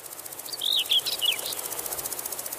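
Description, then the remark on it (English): A conehead bush cricket sings a thin, very high-pitched buzzing trill in steady, rapid pulses, with a few brief chirps briefly rising over it early on. No voices. “It's generally the male bush crickets and grasshoppers that do the singing, and they do it partly to attract the attention of females, but partly also to demonstrate their prowess in competition with other males.”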